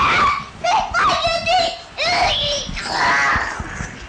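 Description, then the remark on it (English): A young child lets out a series of strained, growly vocal roars imitating a tiger, with short pauses between the loud, raspy bursts. “You're a tiger or a crocodile? No. I'm a tiger!”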